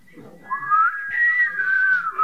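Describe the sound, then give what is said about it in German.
An audience whistles together when those who are happy are asked to whistle, several overlapping tones sliding and wavering around one pitch, sustained for a couple of seconds with faint murmuring underneath. “Alle, die fröhlich sind, sollen pfeifen.”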